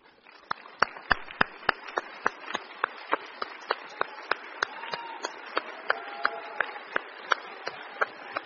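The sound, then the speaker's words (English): Graduates at a graduation ceremony applaud their parents for several seconds, a dense wash of clapping punctuated by sharp, evenly spaced individual claps, with a faint cheer or voice rising briefly partway through. “I invite each of our graduates right now to turn in your seat, find your parents, and give them a big round of applause.”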